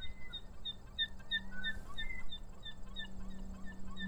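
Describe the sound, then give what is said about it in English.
Gulls flying overhead call in a steady stream of short, high cries repeating every fraction of a second, faint over a low background hum, with no one speaking. “I stopped to let you listen to the sound of the gulls which are flying above me.”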